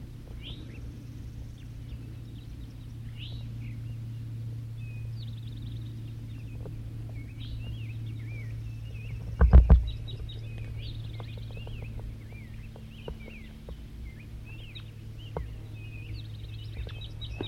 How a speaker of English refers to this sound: Wild birds calling. Another wild bird, another male's coming in. Wild bird singing.